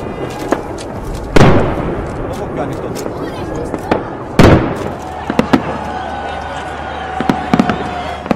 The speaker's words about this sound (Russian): А потом над Акрополем начался праздничный салют.